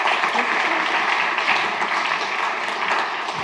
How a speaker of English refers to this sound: So give a big applause